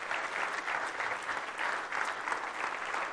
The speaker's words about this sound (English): And one more group I need to honor tonight and just thank. And they've been asking us to thank the presenters, but would you all just give a round of applause to your mission board for putting this together? I think it's just awesome.